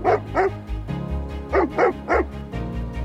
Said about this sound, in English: Then, our dog started barking.